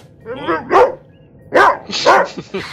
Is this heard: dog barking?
yes